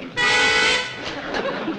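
vehicle, car horn honking

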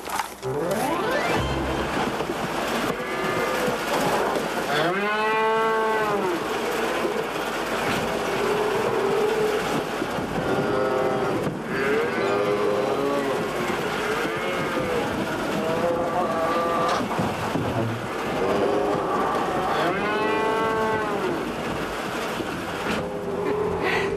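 animal, dairy cows mooing

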